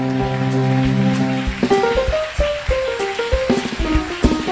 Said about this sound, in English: Help me applaud